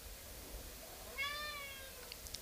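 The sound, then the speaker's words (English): A single meow from the cat Alley Cat, short and fairly faint, rising out of a steady low background hiss with no one talking. “Alley Cat appearance for the day.”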